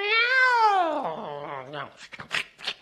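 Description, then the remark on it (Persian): A single long, drawn-out, loud cat meow, sliding downward in pitch for nearly two seconds, followed by a few short choppy vocal sounds. “و طولی نکشید که گربه یه بار دیگه هوس خوردن دنبه رو کرد.”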